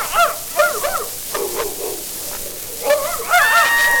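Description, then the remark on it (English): A trained dog in a menagerie barks in a quick series of short, high yaps, a few in a row, then a pause before two or three more, over a steady hiss of background noise. “And the trained dog.”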